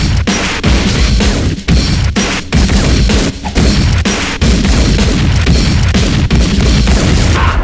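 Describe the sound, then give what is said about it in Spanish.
A loud, sustained gunfire shootout: rapid overlapping shots and bursts crack and boom continuously, with brief gaps between volleys and no voices. “Y empiezo el tiroteo.”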